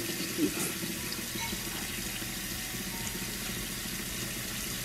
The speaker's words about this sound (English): So now we're gonna run it under cold water for 2 minutes, which in my opinion is kind of wasteful of water, but. So we're gonna do that for 2 minutes.